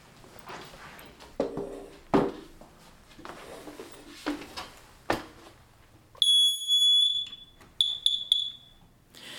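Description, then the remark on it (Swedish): A smoke detector sounds a loud, shrill alarm: one long piercing tone followed by a rapid burst of beeps, preceded by several seconds of knocking and clattering handling noises. “Men testa din brandvarnare idag och sen varje gång VMA ljuder.”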